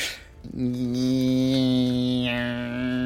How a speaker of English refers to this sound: Oh, a toothbrush. Electric toothbrush. Yes. Yeah, that was quite good because that was actually the sound inside your head.